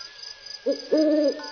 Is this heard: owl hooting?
yes